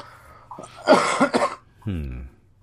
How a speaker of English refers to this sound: Take my coughing break while we're on it.